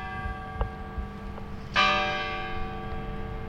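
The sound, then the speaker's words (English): The clock bell of the historic courthouse in Adel, Iowa, west of Des Moines, strikes the hour once, loud and resonant, its rich ringing tone slowly fading over steady low background rumble, with a couple of faint knocks just before the strike. “The historic courthouse in Adel, Iowa, 30 minutes west of Des Moines, chimes the hour from a building bursting at its seams.”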